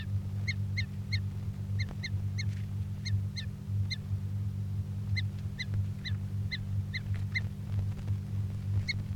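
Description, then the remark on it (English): A bird, bird 338, gives sharp, high chirping calls in quick bursts of two or three, repeated steadily while it is being handled during recording, over a constant low droning hum. No one speaks. “Recording bird 338 being handled.”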